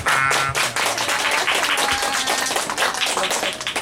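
An audience claps steadily, a dense wash of many hands at full strength for the whole few seconds, with some tonal background sound running underneath.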